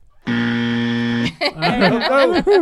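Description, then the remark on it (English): A loud, harsh Family Feud game show buzzer blares in one steady, flat tone for about a second, then cuts off abruptly as voices start talking. “It's the Family Feud buzzer.”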